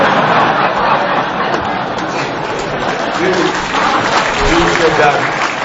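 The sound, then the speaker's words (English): Steady applause from an audience as a speaker announces he is going on a foreign visit, a dense, even patter of many hands clapping at a loud, constant level with a murmur of voices beneath. “But, well, I don't often get clapped when I'm announcing I'm going on a foreign visit.”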